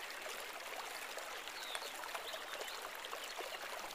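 A steady babble of water trickling and splashing over stones in a stream near Quartzville, continuous, with a faint bird chirp or two in the background and no one speaking.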